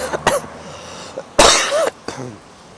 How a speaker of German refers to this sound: ich hoffe, der Husten geht mal weg irgendwann.